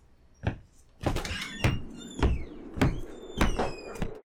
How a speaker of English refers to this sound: Papa was just outside, and he was brushing the snow and ice off of his boots. When he opened the door, a gust of cold wind came inside with him.